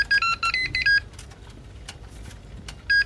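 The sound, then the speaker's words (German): A new, very compact electric contact grill beeps to signal the food is done: a rapid electronic melody of short high-pitched tones plays for about a second, then stops, with a brief beep returning at the end over faint background noise. “Und das ist eben der neue elektrische, sehr kompakte Kontaktgrill.”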